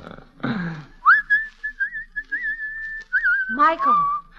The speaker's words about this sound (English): Don't seem to me you're looking very hard, hanging right on the front gate and whistling on the Sabbath.